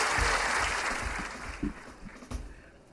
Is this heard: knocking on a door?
no